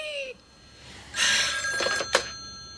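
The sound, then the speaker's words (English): An old-style telephone bell rings in a loud, clattering burst, jangling metallically for about a second, followed by a couple of brief clicks and a short final clang, with no voices. “And then we get to that phone call we heard before in clip 18.”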